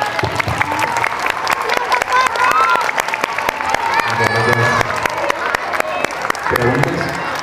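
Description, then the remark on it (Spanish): An audience breaks into steady, dense applause at the end of a speaker's talk, lasting several seconds, many hands clapping at once, with scattered voices and chatter mixed in beneath the clapping. “Un aplauso.”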